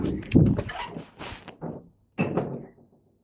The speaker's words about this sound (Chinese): 那你准备好了就开门了，三、二、一。